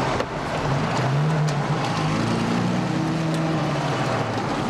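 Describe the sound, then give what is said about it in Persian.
A car engine revs up steadily on the Hemmat Expressway during a chase, its low growl rising in pitch as it accelerates, loud with constant road roar and no one talking. “گاز بده، هر چی گاز بدی می ماشین میره.”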